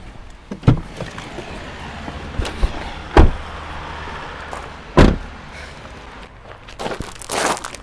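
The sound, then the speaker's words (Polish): Car doors open and slam shut as people get out of a car by a building, with three solid thuds spaced a couple of seconds apart, soft shuffling and movement between them, then a brief rushing, scraping burst at the end. Nobody speaks. “I jakiś dziwny budynek, chyba wysiadamy z samochodu.”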